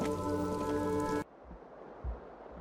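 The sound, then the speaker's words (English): Steady rain hisses outside, a soft, even patter with a dull thump near the end. A louder droning, tonal hum covers the first half, then cuts off abruptly. “As the rain continues to come down, we enter back in the same entrance we came through.”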